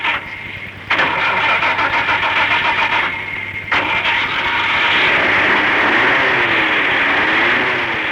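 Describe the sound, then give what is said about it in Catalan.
A car engine cranks with a few short starter bursts, then catches and settles into a steady, loud running rumble, with no talking. “Vinga, va, cap al cotxe, posa el cotxe, vinga.”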